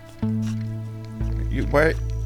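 A cat licks the speaker's fingers and the microphone in a string of soft, wet, squishy smacks, heard over a steady low electronic synth drone with a brief wavering tonal burst.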